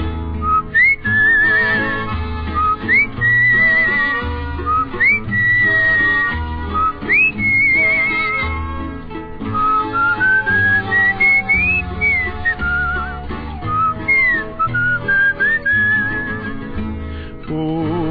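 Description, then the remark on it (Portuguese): A melody is whistled clearly and continuously, with bright sliding notes and slight vibrato, carried over a full musical accompaniment of steady rhythmic instruments for the whole stretch. “Eu sou um pobre carteiro, mas gosto da profissão, pois trabalho o dia inteiro assobiando esta canção.”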